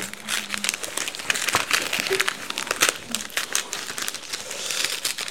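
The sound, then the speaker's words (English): Wrapping paper crinkles and rustles continuously as a present is unwrapped, with dense crackly bursts and no talking over it. “I will open it for you.”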